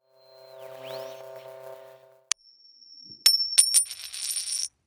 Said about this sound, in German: Die Rückseite. Und jetzt drehen wir die Münze mal und gucken uns die Rückseite an.